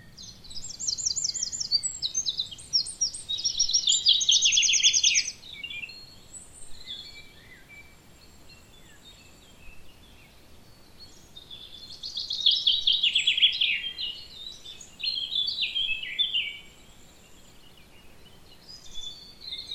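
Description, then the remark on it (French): Several birds sing in overlapping bursts, including bright common chaffinch phrases and fast wren trills, rising and fading every few seconds over a soft, low background hum outdoors. “Et pour terminer, une ambiance pinçant des arbres, troglodytes et autres oiseaux.”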